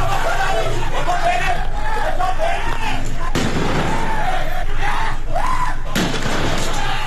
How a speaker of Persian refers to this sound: ویدیویی که از وقایع شامگاه چهارشنبه 18 آبان در شبکه‌های اجتماعی منتشر شده نشان میده که درگیری شدید بین معترضان و نیروهای حکومتی در شهر قهدریجان در استان اصفهان رخ داده که صدای تیراندازی و انفجار رو هم در این ویدیوها میشنویم.